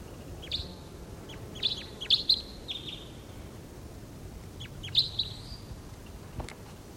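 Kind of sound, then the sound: bird, wild bird calling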